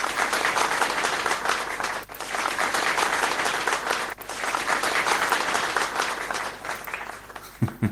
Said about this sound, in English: So applause for ADC.